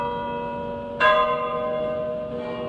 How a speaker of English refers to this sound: The actual sound of the bells of St. Peter's, tolling to let the world know the newly elected Pope was dead. Barely a month had gone by since they had tolled for Paul VI, and people in Rome listened in disbelief